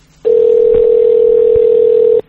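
A telephone ringing tone on an outgoing call: one steady, loud electronic hum lasting about two seconds, clear, then cutting off abruptly. No one speaks.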